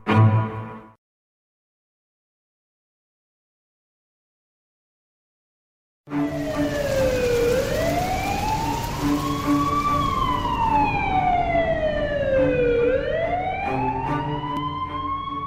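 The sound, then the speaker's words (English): After a brief bit of noise and several seconds of silence, a loud ambulance siren wails at a house in slow rising and falling sweeps as a woman is taken out on a stretcher, continuing steadily to the end with no voices. “That week when she was spiraling, the last thing I remember was an ambulance at our house, and I was watching them take my mom out on a stretcher.”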